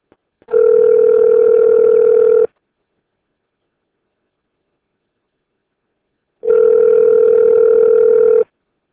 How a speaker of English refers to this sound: So I got a dial tone when I wasn't supposed to get one, so I want to make sure I didn't disconnect it.